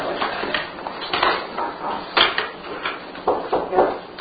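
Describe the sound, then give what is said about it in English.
A chair scrapes and bumps across a hard floor in a series of short, uneven drags and knocks, moderately loud over about four seconds. “All right, so if you then move the chair a little bit to the”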